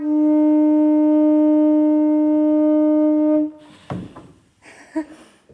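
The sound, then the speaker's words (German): A single organ pipe, blown by a bellows connected to it with a hose, sounds one steady, loud, harmonic-rich tone for about three and a half seconds, then cuts off, followed by a few soft clattering and rustling noises. “Wir haben es mit einem Blasebalg gemacht und den mit einem Schlauch an eine Orgelpfeife dran geschlossen.”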